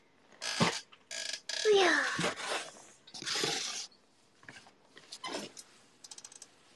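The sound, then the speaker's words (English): A gaming chair is shifted around in a series of irregular bursts: scraping, rattling and a short squeaky creak, trailing off into a few light clicks. “Okay, so I'm moving my gaming chair.”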